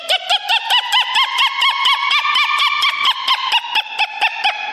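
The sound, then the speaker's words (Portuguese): A woman agronomist imitates a southern lapwing's (quero-quero) call: a quick, steady series of about sixteen harsh, shrill notes, loud, with no talking. “Quero, quero.”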